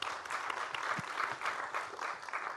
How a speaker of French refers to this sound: Oui, applaudissements.